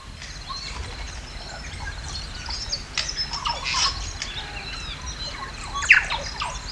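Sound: birds calling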